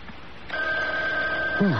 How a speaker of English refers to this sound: Oh, what's that? Oh, it's the phone ringing, Mother. Oh, answer it. It sounds so far away. Well, I disconnected it in here.